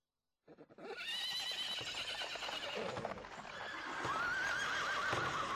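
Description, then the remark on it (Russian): Horses snort and whinny while their shod hooves thud and crunch over snow, a dense, steady stretch of noise that begins abruptly and carries on without pause, with no voices. “фыркали лошади, и под их подковами, точно под моими ботинками, придавленной зверушкой пищала, хрупала.”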